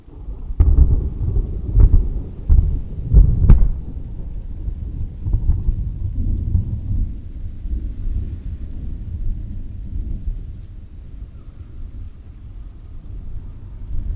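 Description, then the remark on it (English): Heavy rain pours steadily down through slats in a dense, rumbling wash, with a few sharp cracks and thuds near the start before settling into a continuous roar; no voices. “The rain pours through the slats and down.”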